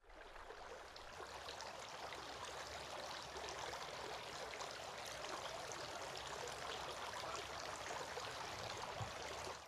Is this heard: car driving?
no